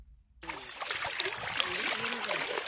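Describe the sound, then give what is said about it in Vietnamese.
Shallow water of the Mekong River trickles and sloshes steadily as a 64-year-old woman pans for gold on its bank near Nong Khai, northeastern Thailand, a continuous wet splashing that starts abruptly after a brief silence, with faint voices murmuring underneath. “năm nay 64 tuổi, đang đải vàng bên bờ sông Mekong, phía Đông Bắc Thái Lan.”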